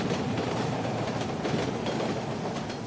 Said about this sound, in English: Hey, we're here in the subway.